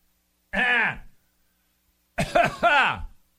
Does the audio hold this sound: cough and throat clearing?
yes